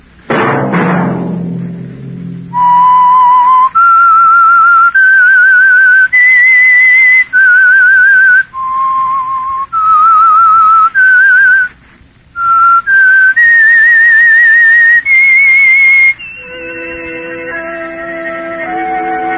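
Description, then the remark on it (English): A clear, loud solo whistle, the theme of the Signal Oil radio program The Whistler, carries a slow, wavering melody of sustained notes rising and falling, opening over a low orchestral swell and closing as sustained instrumental chords take over. “Whistle be your signal for the Signal Oil program, The Whistler, each Monday at 9.”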